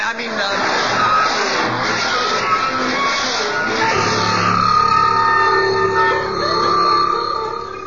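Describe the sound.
A car engine runs steadily and loudly for several seconds, a rough mechanical drone with shifting tones, while muffled voices seem to murmur underneath.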